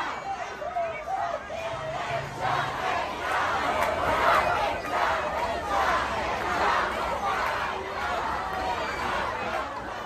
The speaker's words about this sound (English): Here's some footage of what it looked like last night outside the New York Times building and inside the New York Times building. This is the giant crowd gathered right outside the New York Times building chanting.